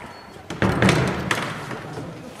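A door being unlocked: a few quick clunks and metallic clicks from the lock and handle, then a brief rattle, with no one talking.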